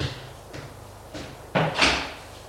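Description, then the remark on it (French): At night, a few soft, evenly spaced knocks on a bedroom door, then a louder clunk and brief scraping rush as the door is pushed open and someone enters. No one speaks. “Elle frappe à la porte et entre.”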